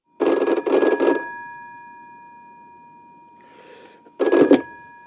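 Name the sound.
telephone ringing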